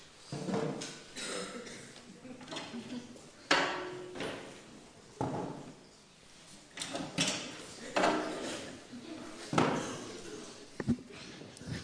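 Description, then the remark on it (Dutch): Three chairs are set down during a church service with loud wooden clunks and scrapes, a series of irregular knocks and bumps spread over several seconds. “Even om jullie wakker te schudden. 3 stoelen.”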